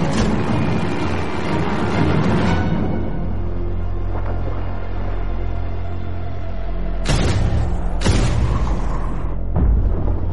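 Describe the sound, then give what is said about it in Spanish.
Deep, muffled explosions of two bombs dropped by an attacking airplane rumble in from far off, heard by the crew of the submarine Growler during a deep dive: a sustained low roar followed by three duller booms in quick succession near the end, with no voices. “La tripulación escucha las explosiones en la distancia.”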